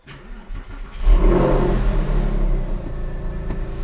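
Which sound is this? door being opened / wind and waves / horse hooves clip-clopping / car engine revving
car engine revving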